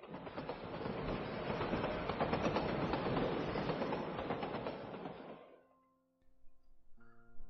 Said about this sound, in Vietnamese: Tàu hỏa chạy lắc lư qua đèo Hải Vân.